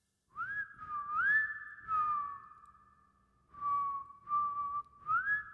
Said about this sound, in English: We close in on the end of the hall, aiming for a similarly rust-colored door that's nameplate reads X-SPLSH. And we hear it whistling.